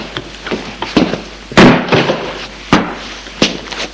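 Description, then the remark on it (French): A bedroom door opens as a mother enters her son's room, a series of sharp clicks and knocks, one louder rattling thud midway, with no talking. “La porte s'ouvre.”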